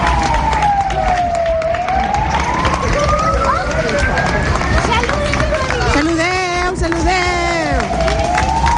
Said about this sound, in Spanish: Y este es el sonido protagonista, aplausos y agradecimientos de los vecinos al trabajo de los bomberos a su paso por las calles de Villalonga.